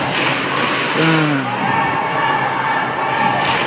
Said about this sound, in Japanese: 今日はね、ブースターの皆さんがすげえ盛り上がってる。トヨタサイドも ICAW サイドも本当に試合を楽しんでる。みんなでかい声出して楽しんでる。